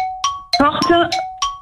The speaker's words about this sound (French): Porte, ouvrir. Et le gong a retenti